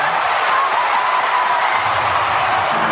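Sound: stadium crowd cheering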